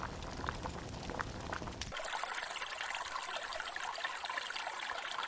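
flowing river water

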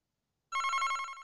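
telephone ringing

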